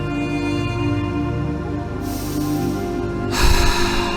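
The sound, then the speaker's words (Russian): Quick breathing over a steady musical hum as part of a fast breathing exercise: a sharp inhale through the nose followed by a stronger, breathy exhale through the mouth, fairly loud, with no talking. “Сейчас мы переходим к более быстрому дыханию.”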